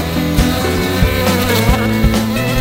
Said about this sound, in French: Empêtré dans les barbelés, je découvre que les abeilles n'aiment pas du tout être dérangées. N'essayez pas, c'est un conseil.